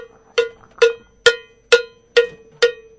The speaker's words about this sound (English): Would you like, I'll even hold the cowbell for you. You only have to use one hand.